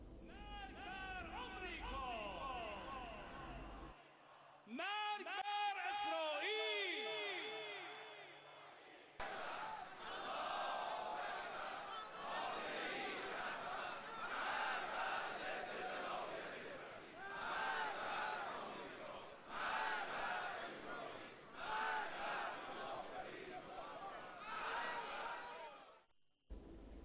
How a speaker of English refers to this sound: Crowds of protesters are rallying to denounce the desecration of sanctities as well as acts of vandalism during the riots.